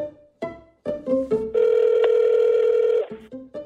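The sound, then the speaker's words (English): A quick series of short telephone keypad tones beeps in irregular rhythm, followed by a steady, loud ringing tone lasting about a second and a half, then a few more brief beeps. “Let's get Bob on the phone.”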